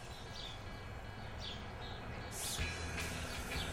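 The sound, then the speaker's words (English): Scattered high bird chirps, a handful of short calls spaced irregularly, rise faintly over a steady low outdoor hum in a residential neighborhood, with no one talking. “Around here it seems to be birds and ice cream trucks.”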